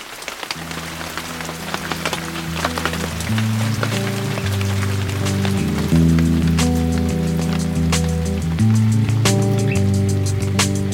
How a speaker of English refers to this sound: Just as I unscrewed the lid of my Nalgene to toast the Aloha life, the first drops of rain began to fall.